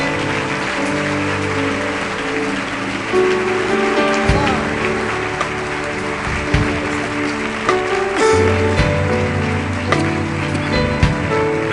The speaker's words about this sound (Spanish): ¿Le das un aplauso a nuestro Padre amado?